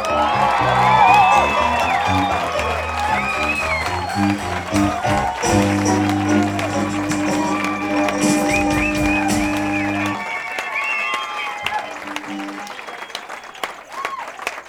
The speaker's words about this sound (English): Thanks a lot, thank you. I'm deeply moved by that highly spontaneous burst of applause. Thank you very, very much.